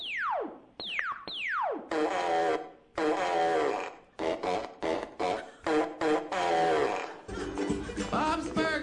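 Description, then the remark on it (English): Three quick descending laser zaps from the TV show Bob's Burgers give way to a string of loud, buzzy, sputtering fart noises, several short blasts and one long rumbling one, with no talking. “Robot voice, laser sound, and fart noise.”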